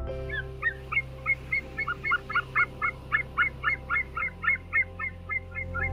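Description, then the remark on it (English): White-tailed sea eagles give a rapid series of sharp, yelping squawks, about fifteen calls in steady rhythm, clear over a low, steady background rumble, in Lithuania where the eagles meet their mates. “This is the squawk of the sea eagles, where they meet their mates.”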